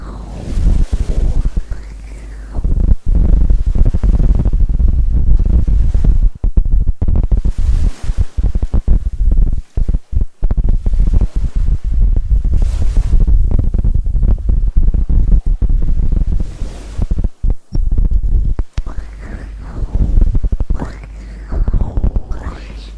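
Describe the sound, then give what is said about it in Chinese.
A person's muffled heartbeat thumps steadily, heard with an ear pressed against the chest, under a deep low rumble with occasional soft rustling and faint breathy whispers. “我想你靠在我的胸口，然后给你听我的心跳，好不好？”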